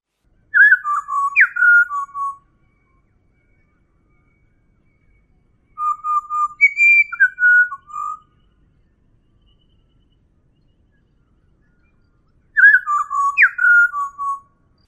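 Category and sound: bird, pied butcherbird song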